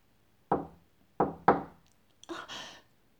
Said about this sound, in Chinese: 办公室突然响起了一阵敲门声